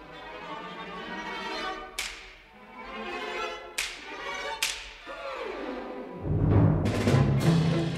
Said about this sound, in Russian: Перед тем, как зазвучит вся группа ударных, ты услышишь звук бича.